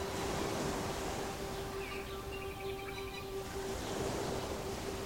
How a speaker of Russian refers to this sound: Вот постепенно море начинает волноваться.